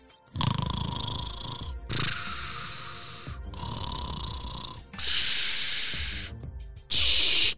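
A series of loud, rhythmic snores with a hissy, radio-like quality, heard over a walkie-talkie the sleeper rolled onto, each long breath separated by brief pauses, with no one speaking.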